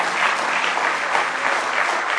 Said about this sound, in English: Give the Lord one more hand clap of praise tonight.